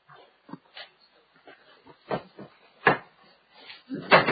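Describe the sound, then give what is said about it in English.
Heavy council chamber doors swing shut as two members leave during a council meeting, with a few muffled thuds and clunks spread over several seconds amid soft shuffling and faint background murmur. “I forgot you to close the doors on the way out.”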